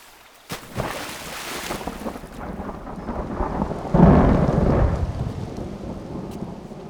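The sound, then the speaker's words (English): Steady rain hisses throughout, joined by a sudden sharp crack early on and a heavy rolling rumble of thunder swelling midway before easing back into the downpour. No one speaks. “Of course, it would be raining.”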